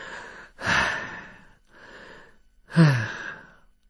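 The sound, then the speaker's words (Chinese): A storyteller's voice imitates the heavy, ragged panting of a pale-faced young woman leaning against a door: four breathy gasps in uneven rhythm, fairly loud, the last one ending in a rough, voiced catch. “可是那个少妇呢，已经是面无人色，倚靠在门上在那直喘气。”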